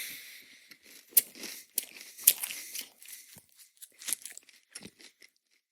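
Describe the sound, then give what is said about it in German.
Dry, brittle crunching of dry, slightly stale crispbread (Knäckebrot) being bitten and chewed, a quick irregular series of sharp cracks with several louder snaps, fading into softer chewing near the end; no talking. “Knäckebrot während einer laufenden Aufnahme essen.”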